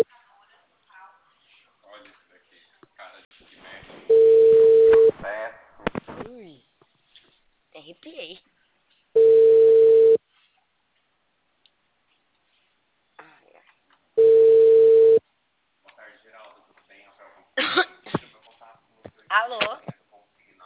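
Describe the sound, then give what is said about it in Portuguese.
A telephone's ringback tone sounds while a call goes through: three long, steady, mid-pitched beeps about five seconds apart, loud and clear, with a person speaking softly in the gaps. “Tô ligando, aqui. Tô ligando, vou escutar.”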